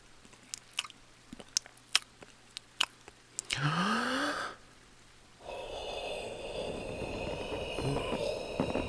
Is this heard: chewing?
yes